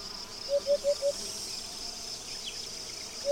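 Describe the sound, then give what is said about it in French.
A steady, high-pitched drone of cicadas singing in the summer heat on an August afternoon on the grassy plain of Cabaneros, with four quick, lower chirps early on and one more near the end. No one speaks. “Cette sensation de sécheresse est soulignée par l'habituelle symphonie estivale du chant des cigales.”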